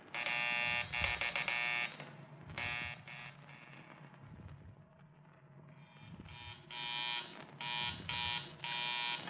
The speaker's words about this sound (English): Just making a check on the phones. Hang up and see if you can hear the others as I ring them.